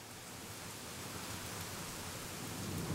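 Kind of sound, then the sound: nature, heavy rain with thunder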